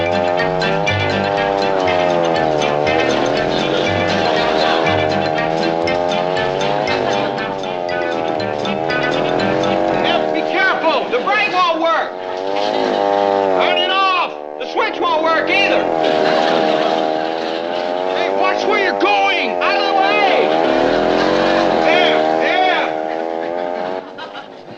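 motor scooter engine running

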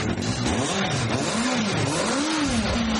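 engine running and revving

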